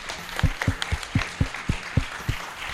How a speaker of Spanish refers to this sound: Sube, por favor, un aplauso